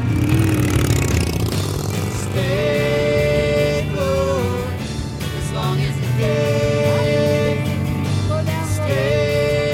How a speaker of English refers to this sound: Get on, you're going for a ride. I don't like motorcycles. You can sit behind me and pretend you're Tom. That's not funny. It's hilarious. Come on, let's go.